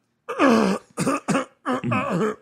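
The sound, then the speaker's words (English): A voice performs a theatrical coughing fit: a long rasping hack followed by two short sharp coughs and a final drawn-out, throaty cough, loud and exaggerated. “Because let me tell you, you want me to cough in a movie? I could do a great one.”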